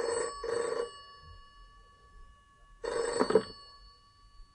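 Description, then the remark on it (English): A telephone rings in two close bursts, pauses for about two seconds, then rings once more. The bright, trilling bell is loud and clear with no voices. “received a phone call.”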